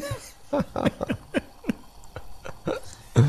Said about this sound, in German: stehen vor unserer Herdplatte in meiner neuen Kanzlei und versuchen, das Geräusch von einer Bialetti, die jetzt aufkocht, aufzunehmen. Ah, es kommt, gehört.